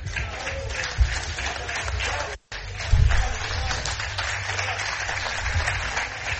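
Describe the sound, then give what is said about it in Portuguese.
Journalists applaud coach José Peseiro after he thanked the media, dense overlapping claps filling the whole stretch with a brief dropout midway, a few louder thumps and faint murmuring beneath. “Jornalistas a aplaudirem José Peseiro, perdeu o jogo, ganhou o apoio da imprensa.”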